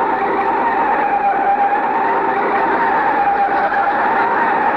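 A car's tires screech in a long, loud, steady skid as the car, its brakes recently fixed, brakes hard to stop at a doctor's office building, the squeal holding strong for several seconds without letting up. No voices are heard.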